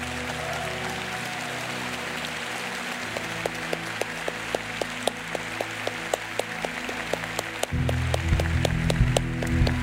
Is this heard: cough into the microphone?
no